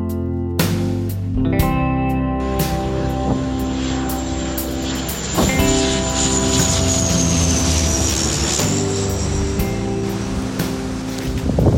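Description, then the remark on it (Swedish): A yellow Italian water-bombing airplane arrives, its engine droning steadily with layered propeller-like tones and a rising whine, sustained loud throughout, with occasional sharp clanks and no talking. “Sen får vi höra flygplanet från Italien kommer.”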